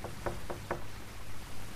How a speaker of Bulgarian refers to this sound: Нещо пише на вратата. Дом господин Охлюв. Да почукам с едно пръстче.